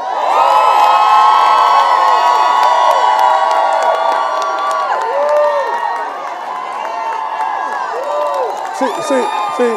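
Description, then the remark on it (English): An audience erupts in loud, sustained cheering and shouting, many voices whooping and calling out together at a steady high energy for the full stretch, with a brief swell near the end. “You shout for somebody else, somebody gonna shout for you one day.”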